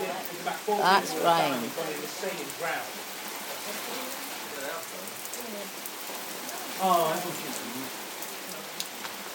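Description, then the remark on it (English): Heavy, cold rain pours steadily outside, a dense continuous hiss filling the whole stretch, while muffled voices murmur briefly a few times beneath it. “That's rain.”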